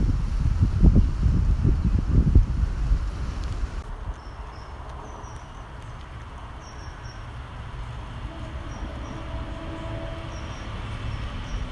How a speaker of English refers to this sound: As the trains keep coming thick and fast through Saltaire Station, it really is a busy line. You don't realise until you're right next door to it.